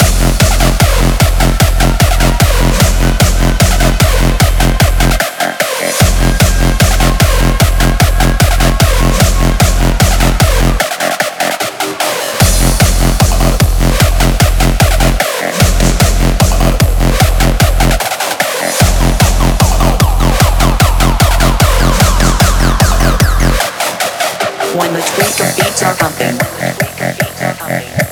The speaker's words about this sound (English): Hey, tweakers, bring back that reverse bass.